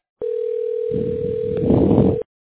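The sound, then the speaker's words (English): A steady, loud telephone dial tone drones for about two seconds after a call hangs up, with rustling line noise building beneath it toward the end before it cuts off abruptly. “The call hung up on Salud.”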